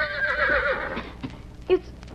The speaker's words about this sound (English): But today, as he entered between the rocks, he heard a different sound. It was the whinny of a horse.